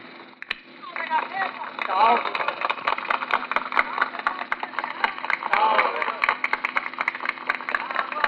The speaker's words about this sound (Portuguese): Deram salve a várias cidades da Gazeta, povo de Minas Gerais, todos batem palmas.